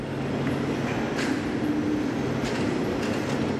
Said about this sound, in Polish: Modernizacja odcinków Chybie-Nędza-Turze oraz Toszek Północ-Stare Koźle to część Krajowego Programu Kolejowego. Posłuchaj, co dzieje się na budowie.